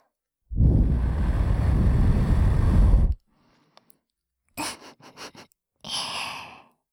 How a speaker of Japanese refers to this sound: それじゃ、お耳の細かいカス、吐息で吹き飛ばしてあげるね。